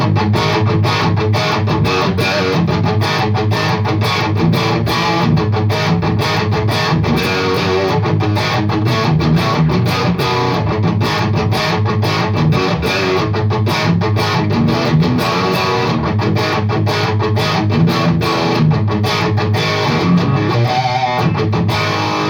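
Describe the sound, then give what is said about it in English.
Crunchy, metallic overdriven electric guitar plays steadily and loud through an amp with its gain set low, dense chugging chords ringing throughout with no talking over it. “So even with a low level of gain, you're getting that kind of nice crunchy but like metally overdrive sound.”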